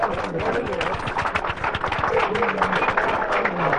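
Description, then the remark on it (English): A crowd applauds a first guest being introduced, with many hands clapping in a dense, continuous patter that stays loud for the whole stretch. Faint voices and cheers seem to rise underneath the clapping. “Now, let's give him a clap.”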